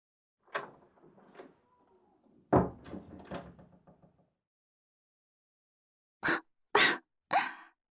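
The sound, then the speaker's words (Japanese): Three sharp, harsh coughs in quick succession, about half a second apart, loud and alone, following a stretch of murmured, groaning vocal sounds. “咳、風邪かな。”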